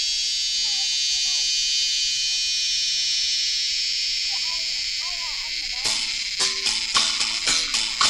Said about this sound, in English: It's July, and it's hot. It's so hot. And everything is entirely still. And the only sound is the cicadas.